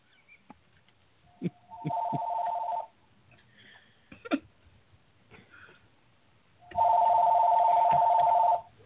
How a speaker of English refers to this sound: Stupid phone. I'm not picking up the damn phone.